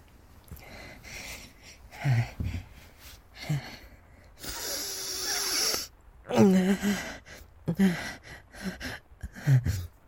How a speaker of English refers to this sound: Okay, scientific sniffing commencing.